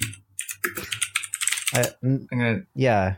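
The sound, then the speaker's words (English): A quick burst of typing on a computer keyboard, rapid clicks for about two seconds, followed by a person speaking. “Hang on, I'm going to clickety-clack keyboard again.”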